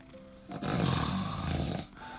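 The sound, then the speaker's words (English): A loud, rough snore rumbles for over a second, a gravelly, rattling inhale that swells and fades, with quieter breathing before and after. “Okay, snore off contestant number five.”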